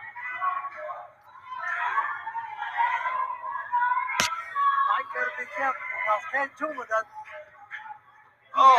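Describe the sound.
A single sharp open-hand slap cracks out midway, loud, over a steady roar of crowd noise and indistinct voices, as one wrestler slaps another inside the ring during a wrestling match.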